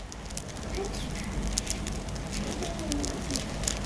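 Steady crackling like a small fire, made by a child scratching hard with small fingers in front of the microphone at a film sound-effects workshop: dense irregular pops and snaps at moderate volume for the whole stretch, with no one speaking.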